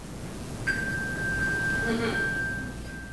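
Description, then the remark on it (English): A misplaced phone, triggered by pressing a button in a locator app on a smartwatch, pings with a steady, high electronic tone that starts after a brief pause and holds for a couple of seconds. “when I lose my phone and misplace my phone, there's a really, really cool app on my watch”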